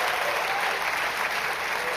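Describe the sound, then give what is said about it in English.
A church audience claps and cheers for the Southeast campus during a worship service, a dense, steady roar of applause that holds at an even, loud level for the whole two seconds, with no speech over it. “In fact, as a congregation, can we just give a really big cheer for the Southeast campus right now?”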